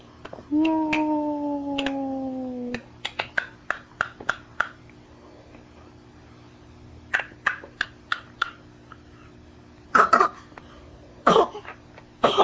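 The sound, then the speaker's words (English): A couple of small coughs near the end, preceded by a scattering of sharp tapping clicks and a brief rising whine at the start; no one speaks. “Aw, got a little cough.”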